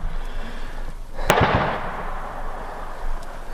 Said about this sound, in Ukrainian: Ну, це вже Дашка працює, ДШК.